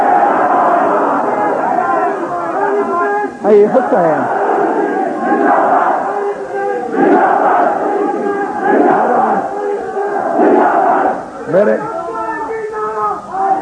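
A large crowd at a majlis (religious gathering) chants a religious slogan in loud, rhythmic unison, voices rising and falling in repeated bursts with no pause for the whole stretch.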